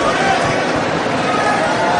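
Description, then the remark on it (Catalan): Dense, continuous applause from a crowd in a town square at the Diada de Sant Joan castells (human towers) event, for members of the Colla Vella who have just completed three large towers: a steady wash of many hands clapping at an even loudness for the whole two seconds, blended with crowd noise. “Doncs els aplaudiments a plaça, ara mateix el sentiu de fons és precisament pels membres de la vella,”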